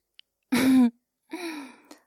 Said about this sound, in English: Did you just gasp?